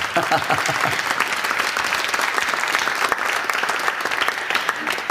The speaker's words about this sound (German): Vielen Dank. Danke, Dielefeld. Klasse. Dein Applaus.